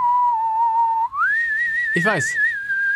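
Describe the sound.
Someone whistles a slow TV series theme tune, holding a steady note before gliding up to a higher sustained pitch, with a brief burst of voice partway through.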